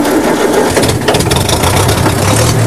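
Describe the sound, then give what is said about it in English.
A tractor engine cranks and catches, then settles into a loud, steady low rumble with a rattly, throbbing edge. No voices. “That tractor's worth checking out. It should have a low-revving, high-torque engine, ideal for pushing paddles.”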